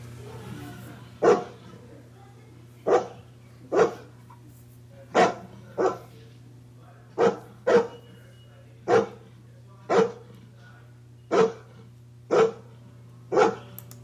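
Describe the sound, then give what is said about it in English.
A dog barks repeatedly, about a dozen sharp, fairly loud barks at a steady pace, some in quick pairs, over a low constant hum with no talking. “They tend to bark a little bit. Again, they all can talk to us, but here's what they sound like.”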